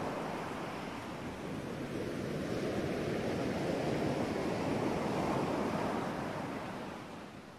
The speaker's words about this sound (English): Sandra just smiled at that last remark by Aaron and continued to listen to the ocean waves with her.